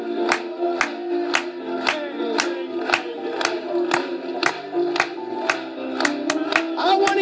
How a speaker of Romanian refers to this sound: Hai să o aplaudăm lui încă o dată.